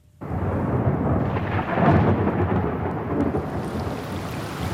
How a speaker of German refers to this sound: Gewitter und Regen, das Trommeln der Tropfen auf ein Fenstersims.